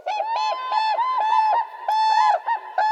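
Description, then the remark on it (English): A whooping crane calls in a rapid series of loud, bugling honks, the trumpeting notes repeating and overlapping almost without pause, clear with no voices present. “Standing nearly 5 feet tall, the whooping crane is the tallest flying bird in North America.”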